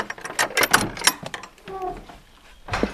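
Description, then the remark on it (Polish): An old wooden door with a simple hasp latch, no lock, on a historic cottage in an open-air heritage museum (skansen) creaks open with a drawn-out, groaning squeal, preceded by a burst of rattling, clattering knocks from its latch and followed by a final thud. “Skrzypienie drzwi. To takie drzwi na skobel, jeszcze nie zamykano wówczas na żadne zamki.”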